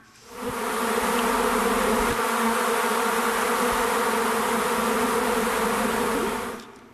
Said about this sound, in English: I look around, and there is literally thousands of bees swarming in my backyard.